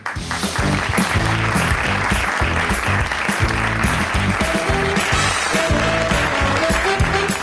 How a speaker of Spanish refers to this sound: ¿Qué aplauso? Que hay en la urna. Aplauso ese de vergüenza, ¿no? Bueno, es que tampoco era un contenido para tirar cohetes, ¿eh?